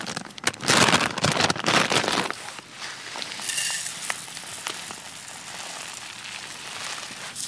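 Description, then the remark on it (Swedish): Dry bulgur grains rush and rattle into a saucepan for about two seconds in a dense burst, then fade to a soft, scattered crackle and hiss. “Bulgur. Som vi häller i en kastrull.”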